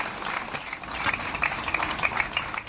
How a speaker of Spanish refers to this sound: Una concentración respaldada por numerosos pamploneses que terminada con un cálido aplauso.